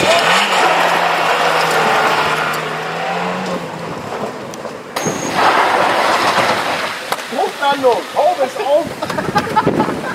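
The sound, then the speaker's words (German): An old used car's engine roars loudly at full throttle with a steady droning tone for several seconds, then the noise drops back as people start talking over the lingering rumble. “Jungs, 3, 2, 1, voll an.”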